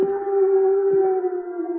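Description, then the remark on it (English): A person imitates a hoot owl with one long, steady, mid-pitched hooting note that holds for nearly two seconds, clear and fairly loud, with no talking. “Suddenly, one heard the call of a hoot owl.”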